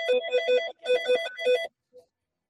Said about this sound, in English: Oh, wait, the phone's ringing.